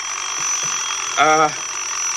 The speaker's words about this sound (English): No, you see this phone? It rings all day. I'll answer it.